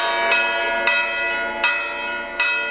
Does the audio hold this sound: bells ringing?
yes